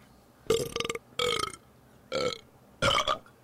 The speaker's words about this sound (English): But first, some belches.